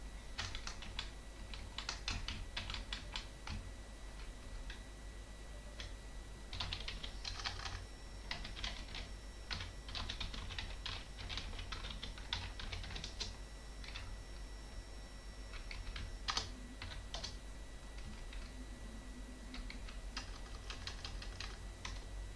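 Rapid clicking of computer keyboard keys in uneven bursts as someone logs into a machine to apply an update, with short pauses between flurries of typing, over a steady low hum. No one speaks.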